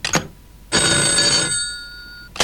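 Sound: telephone ringing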